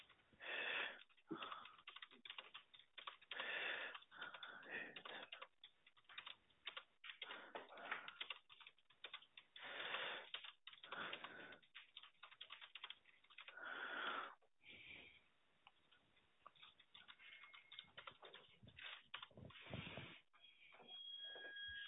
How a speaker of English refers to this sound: just while I'm typing up the notes.